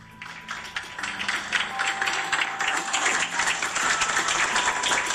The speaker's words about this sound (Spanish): Los aplausos que ustedes escuchan es por parte del personal de la clínica CIOSAT aquí en la ciudad de Bogotá